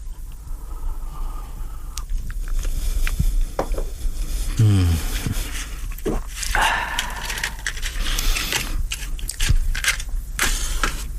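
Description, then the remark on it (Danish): Quiet sounds of a cigar being lit: a few clicks and a brief flare, then soft breathy puffs and lip smacks repeating irregularly, with no talking. “Og så lige lidt på cigaren imens.”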